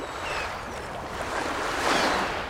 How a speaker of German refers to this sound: Meeresrauschen, Möwen, der Sand rieselt durch die Zehen, eine frische Brise weht, ein freier Blick auf Segelschiffe.